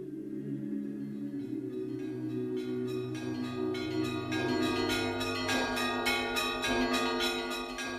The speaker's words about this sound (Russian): Слышите? Звонят церковные колокола. Они зовут нас на божественную литургию.